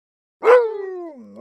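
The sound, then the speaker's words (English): A single loud bark from Rex, a dog about to go for his walk, bursts out after a moment of silence, then stretches into a drawn-out, falling whine-like tone, with no one talking. “Come on, Rex. It's time for your walk.”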